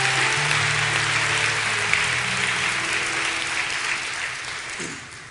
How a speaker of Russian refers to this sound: Слушайте, вот за домашние группы давайте дадим Богу аплодисменты, потому что это Божий проект.